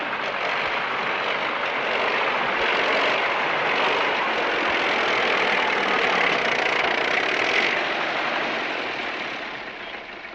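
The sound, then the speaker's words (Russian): A tractor engine idles steadily and fairly loud for about ten seconds, a continuous rough chugging drone with no voices, easing off slightly at the very end. “Вон он с трактора не слезает.”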